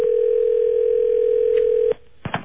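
A steady, mid-pitched telephone dial tone hums for about two seconds while a call is being placed, then cuts off abruptly, followed by a brief quiet and a couple of sharp clicks.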